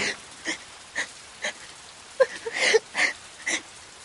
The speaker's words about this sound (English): I let the rain fall. But this rain is beautiful.